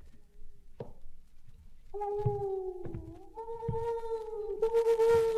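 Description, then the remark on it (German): An owl calls at midnight, its eerie call rising into long, drawn-out wailing tones that hold steady and shift pitch in small steps, growing louder over a few low thumps, with no talking. “Das ist nur eine Eule.”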